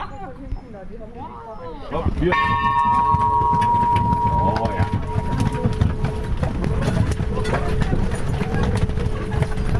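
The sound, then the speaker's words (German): Five horse-drawn carriages set off from a farmyard on the bank of the Elbe at 9 o'clock with a busy, loud clatter of clip-clopping hooves and rolling wheels, over a sustained ringing tone, after a brief stretch of voices at the start. “Und um 9 Uhr wird die Glocke läuten und dann fahren hier die 5 Kutschen vom Hof.”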